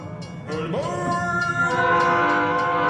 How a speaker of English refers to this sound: I ended it every time with the train sounds.